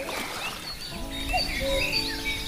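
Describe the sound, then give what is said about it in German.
Several small birds chirp and trill in short, scattered calls over the soft, steady wash of gently lapping waves on the still Attersee lake at the mountaineering village of Steinbach in the morning sun, with no voices present; calm, moderately quiet and outdoors. “Außer den leicht schwappenden Wellen des Sees und den Vogelstimmen ist nicht viel zu hören.”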